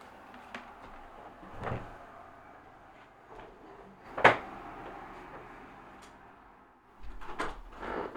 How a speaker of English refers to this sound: Let me close the window for sound.